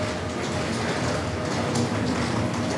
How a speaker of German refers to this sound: bin gerade in Würzburg am Bahnhof angekommen und bin auf dem Weg zum Molly